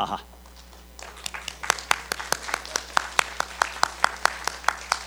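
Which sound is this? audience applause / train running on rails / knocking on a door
audience applause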